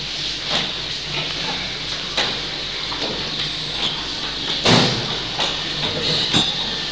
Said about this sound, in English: Yeah, we could actually open the door, that's true. Open the door.